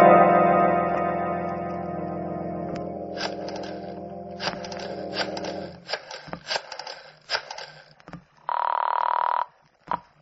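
A telephone gives a short, buzzing ring near the end, after a sustained droning tone fades out and a string of sharp clicks and taps. No one speaks.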